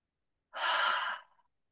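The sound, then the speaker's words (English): A single breathy exhale like a long sigh, airy and fairly loud, fading out over about a second with no talking: a deep breath taken during a guided breathing exercise. “So now let's just take a deep breath, everybody. Just take a deep breath.”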